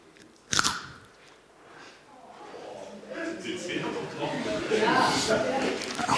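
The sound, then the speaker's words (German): A sharp, crisp bite snaps right up close to the microphone, followed by several seconds of loud, crackly crunching as a snack from a small bag is chewed while others guess what is being bitten into. “Beiß bitte nochmal ab.”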